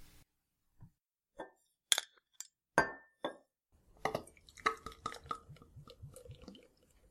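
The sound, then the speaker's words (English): A bottle of thick, rich stout beer is opened and handled, with several sharp glass clinks, followed by a busier stretch of clattering glassware and liquid sounds; no one speaks. “Let's open it up.”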